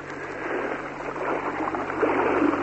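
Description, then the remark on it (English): Continuous sloshing and splashing of water, steady and fairly loud, as someone wades through shallow sea water a long way to shore during a British landing with heavily laden paratroopers on the Falklands on a quiet, starlit night, with a faint low hum in the background and no voices. “And it's quite a way to shore. I'm in the water.”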